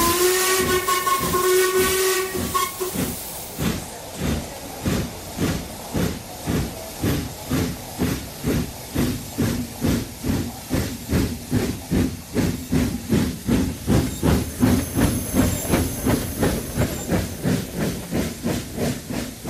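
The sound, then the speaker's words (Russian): A steam train pulls away from a station platform: a sharp whistle blows first, then loud hissing chuffs settle into a steady rhythm and gradually quicken as the locomotive gathers speed, prominent with no talking. “При третьем звонке я горячо припал к ее руке, она коснулась губами моей щеки, я вскочил в вагон, он толкнулся и двинулся.”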